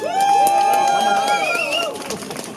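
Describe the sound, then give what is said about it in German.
A crowd cheers and whoops loudly in applause for attendees from Dresden, with high sustained shouts over a steady wash of clapping. The noise stays full for a couple of seconds, then begins to thin out. “Also mindestens genauso ein Applaus.”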